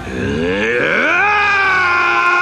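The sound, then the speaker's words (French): The character Shang Yu lets out a long, loud roar of frustrated rage, starting as a guttural growl and rising into a sustained, strained shout that holds steady for over two seconds. “Shang Yu, frustré, hurle de colère.”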